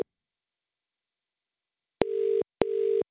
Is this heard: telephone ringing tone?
yes